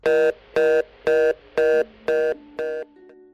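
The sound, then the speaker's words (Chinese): A telephone's hang-up tone after the call ends: six evenly spaced, loud electronic beeps in a steady rhythm, heard alone, the last ones slightly softer. “接电话的是一个美丽端庄又带着妩媚的少妇，只见她还拿着已经挂了的电话坐在沙发上，一脸幽怨的样子。”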